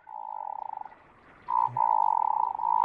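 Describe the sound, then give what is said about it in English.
Low, drawn-out rolling croaks from a hooded merganser, frog-like and buzzy, in two long bursts separated by a brief pause, clear with no talking. “Which song do you like the best of those mergansers? Oh, I like it of the hooded merganser.”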